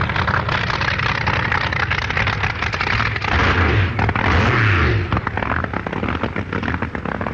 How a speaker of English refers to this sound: The 6-litre supercharged Dodge V8 engine of Don Garlitz's car is the first to fire, and the driver blips the throttle to clear the plugs.